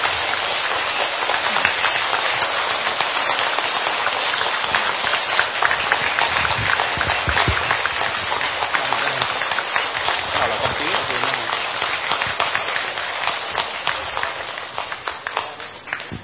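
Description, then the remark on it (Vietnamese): A large audience claps steadily in loud, dense applause that fills the whole stretch, a continuous crackle of many hands that tapers off slightly toward the end, as a gift is presented to Dr. Thích Nhật Từ. “Xin quý vị cho tràng pháo tay thật lớn ạ.”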